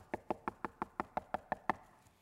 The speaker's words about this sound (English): He says this, I stand at the door and I knock.